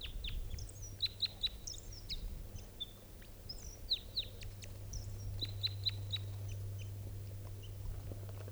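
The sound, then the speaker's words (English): A wild bird in flight, approaching and flying into a net, sings repeated high, sharp chirps and short whistled phrases in bursts over a steady low hum and faint background noise. No one speaks. “In flight, that was 387's wild bird.”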